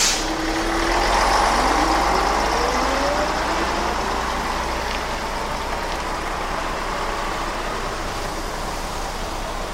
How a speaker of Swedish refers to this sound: Äntligen kommer bussen. Men bussen är fullpackad. Det finns ingen plats på bussen. Går det inte? Nej, det går inte. Bussen rör upp ännu mer damm och åker sin väg.